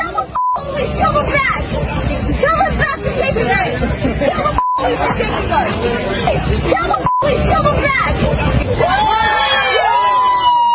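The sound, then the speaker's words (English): A large crowd of demonstrators outside a courthouse cheers and shouts continuously as they burn an American flag, many voices overlapping loudly. The noise is cut by a few brief beep tones, each followed by a short gap. “This is what they were saying outside the courthouse, and you can then hear the crowd cheering as they burn an American flag.”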